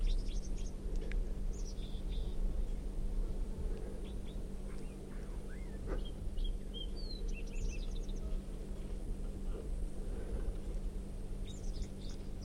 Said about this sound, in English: And that song coming from, I think, 305. Recording. This wild bird is red, and it has a right crossing bill, and it has quite a bit of yellow right down the middle of the belly.